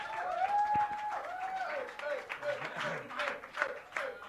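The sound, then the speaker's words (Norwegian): Audience applause for a band on stage: a steady patter of many hands clapping, with high whistling or cheering voices rising and falling over it, loud throughout. “Kom med ordentlig applaus, da kan ikke alle klappe.”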